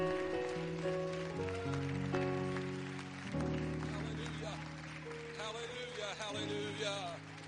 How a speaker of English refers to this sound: Now, would you just clap your hands one more time before you're seated and give him great praise?